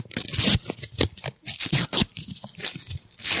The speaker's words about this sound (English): Just keep tearing that comic up. It's fine. It's all right.